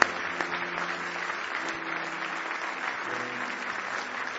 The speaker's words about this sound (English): Why don't you give him a big hand clap of praise if you love him this morning.